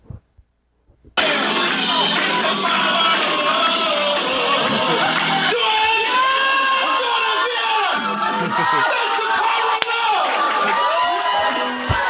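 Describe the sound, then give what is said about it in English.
A large concert crowd cheers and yells loudly and continuously after a brief quiet moment, with many voices blending into a dense, sustained roar and scattered shouts rising above it. “Plus, the band members were laughing and like in shock and clapping too hard. Here's what it sounded like.”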